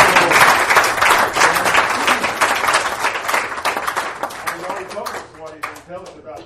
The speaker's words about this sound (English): You love the Lord? Amen. Amen. Let's just give the Lord another applause. Amen. Amen.